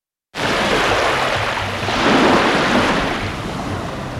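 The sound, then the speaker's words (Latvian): Sea surf rushes steadily onto the shore, a broad continuous wash of breaking waves that swells a little midway, fairly loud, with no voices. “Vasara, tā ir saule, jūra, atvaļinājums un kāds ceļojums.”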